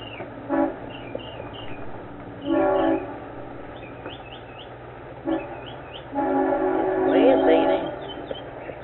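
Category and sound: vehicle, train passing with horn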